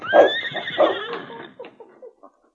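A horse named Blackie neighs alone outside a cabin: a loud, shrill whinny with rapid pulsing bursts that fades into a few short, breathy snorts after about a second and a half.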